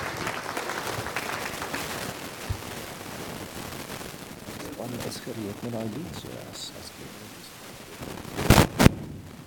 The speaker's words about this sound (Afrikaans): Kom ons gee hom 'n lekker hande klap, baie dankie Pastor.